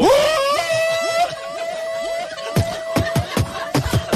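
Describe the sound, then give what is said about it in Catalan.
An electronic signal sound effect: a sustained, eerie tone with swooping, whale-like warbles, followed by a run of sharp, rhythmic clicking hits. No talking. “És la cuquisenyal. Em pensava que era un cant de balena.”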